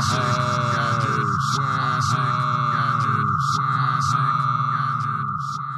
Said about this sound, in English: Got to get the echo machine fixed.